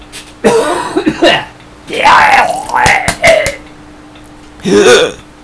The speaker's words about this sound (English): My voice is dying. All right, hang on, I'm gonna do a nice big cough.